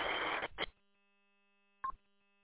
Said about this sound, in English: Yeah, your Roger tone is no static there for me, so it's absolutely on your end there.